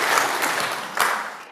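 A crowd breaks into steady applause, dense overlapping claps filling the room at a lively, fairly loud level before starting to thin out at the end.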